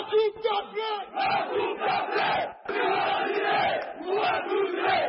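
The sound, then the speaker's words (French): A large crowd of Algeria football supporters, before the final against Senegal, chants and cheers loudly, their massed voices rising in rhythmic, sung phrases that run almost continuously, with only a brief dip in the middle. “L'Algérie avait déjà battu le Sénégal en phase de poule 1-0 et les supporters des Fenech y croient.”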